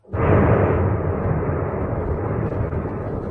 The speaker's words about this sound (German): Da war gerade eine Explosion. Keine Ahnung, was das jetzt war. Ah, jetzt fallen sie zusammen.